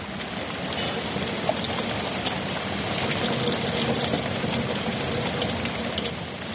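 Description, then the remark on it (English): Heavy rain pours down steadily, a dense continuous hiss with countless drops pattering, loud and unbroken with no voices. “I was right about the rain. Came down in buckets.”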